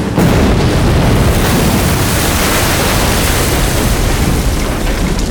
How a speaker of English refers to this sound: Boot stood transfixed for a long moment, in awe of the magnitude of the explosion.